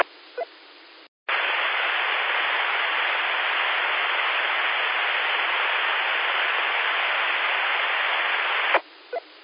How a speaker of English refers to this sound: Kind of a white noise sound, no particular pattern or anything on my end. At all. When the filter was there, there was a little more definition to the sound, but it didn't change in terms of the overall background noise, I don't think.